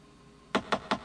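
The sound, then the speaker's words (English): Four firm knocks on a luxury suite cabin door on a cruise ship, in a steady, even rhythm, each a sharp, hollow thud, coming after a moment of near silence with no voices. “It's you that's knocking, you idiot.”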